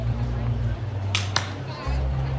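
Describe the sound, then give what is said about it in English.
Two weak, scattered hand claps, brief sharp smacks a fraction of a second apart, over a steady low droning hum with no other clapping around them. “Some of your claps sound like a wet paper bag falling on a dead fish.”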